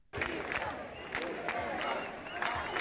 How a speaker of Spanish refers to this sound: Arratsaldeon. Arratsaldeon, sí, entre gritos de Puigdemont a prisión.